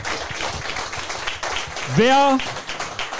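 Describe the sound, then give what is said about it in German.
A crowd applauds steadily throughout, a dense patter of many hands clapping, with a single voice calling out briefly in the middle. “Kleiner Applaus,”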